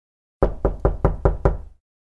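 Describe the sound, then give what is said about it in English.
Six quick, evenly spaced knocks on a door, solid, each with a short resonant thud, then silence. No voices. “Death knocked on the door in the late afternoon.”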